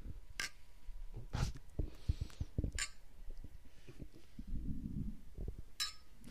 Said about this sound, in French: Attends. Il faut trinquer devant le verre, ça.